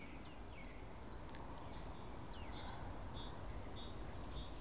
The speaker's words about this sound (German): Im Hintergrund hört man rufende Amseln, wippende Kohlmeisen, trommelnde Spechte.